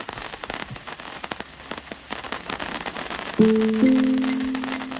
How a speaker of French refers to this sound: On va juste s'abriter parce qu'il y a une pluie soudaine. C'est la pluie bretonne, c'est normal. C'est sain.